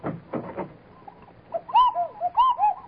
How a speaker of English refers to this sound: Well, what was that? Oh, the doorbell.